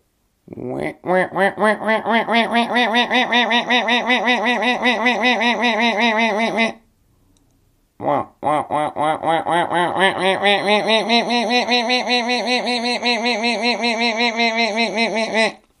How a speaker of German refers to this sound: Der Wendehalsruf ist aber sehr einprägsam und sehr eindringlich. Und er klingt so.